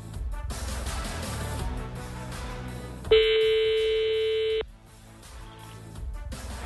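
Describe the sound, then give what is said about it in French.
A single steady telephone ring tone of a call to the Hôtel de l'Alma sounds for about a second and a half, loud, standing out over continuous background music. “Allez, on va réessayer la technique du téléphone.”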